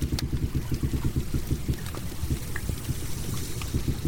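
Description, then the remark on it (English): A dense underwater texture heard on hydrophones off a jetty in a crystal-clear harbour: low, rapid pulsing knocks and bumps with scattered faint clicks and brief higher squeaks, steady and moderately loud throughout, with no voices. “Looking down into this crystal clear water, there's hardly anything moving, and yet there's this confusing array of squeaks, bumps, bangs and rustles.”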